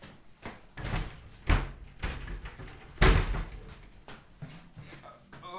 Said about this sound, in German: Also meine Türen sind jetzt geschlossen.